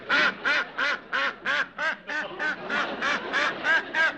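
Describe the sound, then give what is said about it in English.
A duck, Drobny, quacks loudly while washing his feet, a steady run of about a dozen quick, evenly spaced nasal quacks with no other sounds or voices. “There's nobody in there but a duck washing his feet.”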